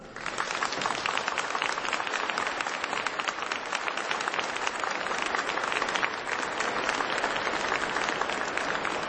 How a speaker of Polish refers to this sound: do tego przepięknego miejsca, jako rodzina Radia Maryja i kochani w tej rodzinie Radia Maryja i także z tymi, którzy łączą się razem z nami poprzez Radio Maryja, poprzez telewizję Trwam, siebie nawzajem przywitajcie bardzo gorącymi oklaskami.